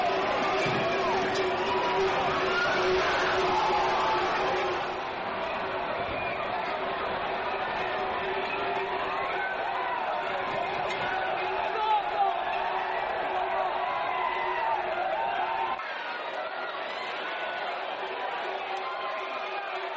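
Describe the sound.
A large outdoor crowd at Spain's annual running of the bulls festival, a dense, continuous roar of voices and shouting with scattered thuds, easing slightly partway through and thinning near the end.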